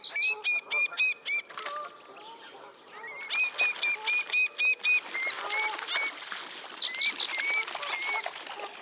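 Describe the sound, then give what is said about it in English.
A pair of little grebes, anxious about a large coot close to their nest, give rapid, high-pitched agitated calls, trading urgent, repeated whinnying notes, with short bursts overlapping and no talking. “And these calls from a pair anxious about the presence of a large coot close to their nest.”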